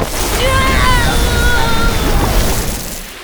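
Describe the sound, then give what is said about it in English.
A loud, sustained blast of rushing, splashing water, squirted by the cartoon character Bubbles from her hands at Leo, lasting a few seconds, steady before tapering off, with faint high-pitched vocal cries mixed in. “I just meant to squirt a little water on you.”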